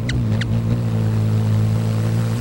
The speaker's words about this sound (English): Their wings might whoosh, but only a hummingbird's hum.